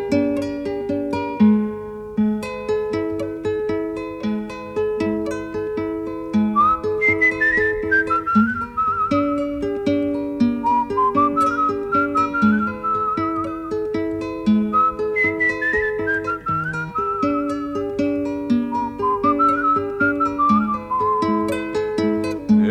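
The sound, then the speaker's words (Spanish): A person whistles a slow, sliding melody in long drooping phrases over steady plucked guitar-like accompaniment. The whistle is clear, with no voices. “Si hasta el monte se ha cerrado en un silencio profundo, porque se juega un segundo con su silbido cansado.”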